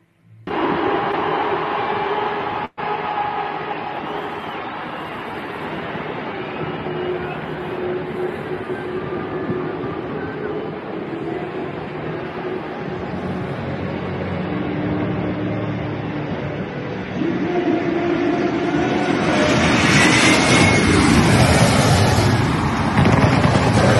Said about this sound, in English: we, of course, had the controversial flyover of the Springboks versus New Zealand rugby match by Airlink. And it was quite impressive.